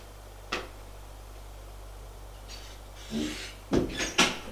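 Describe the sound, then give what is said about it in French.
A single sharp tap, then after a pause a few firm knocks on a door mixed with the rattle of it being opened, over a low steady hum with no voices. “Frappe à une porte et le fait entrer.”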